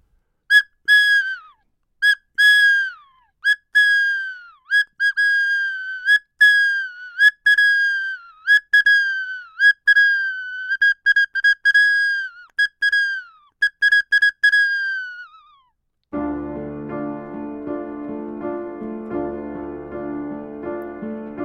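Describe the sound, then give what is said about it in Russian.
A toy whistle is blown again and again in short, shrill toots with slight pitch bends, loud, for about fifteen seconds. Then music with a lower, fuller tone takes over. “В паузах между дыхательными песенками можно поиграть на дудочке или посвистеть на свистульке.”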